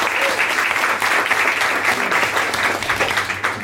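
Steady applause from a group, dense overlapping claps filling the whole stretch at a fairly loud, even level, with no voices standing out.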